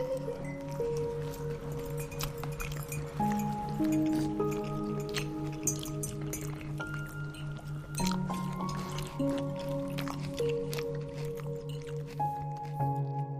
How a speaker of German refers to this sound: Doch bald hörst du nur noch einvernehmliches Schmatzen, Mms und hin und wieder ein leises Kichern.